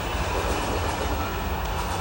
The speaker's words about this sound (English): The train has arrived. Every time I hear it now, the announcer, I feel anxiety building up.